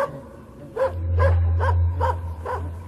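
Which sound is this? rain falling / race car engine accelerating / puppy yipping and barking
puppy yipping and barking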